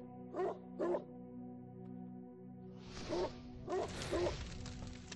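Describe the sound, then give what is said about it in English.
A dog barks five times, a quick pair followed by a group of three after a pause. The barks are fairly loud over a steady low droning hum, with a rougher hiss behind the later ones. “That is a bad puppy.”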